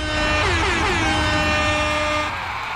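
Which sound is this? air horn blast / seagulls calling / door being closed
air horn blast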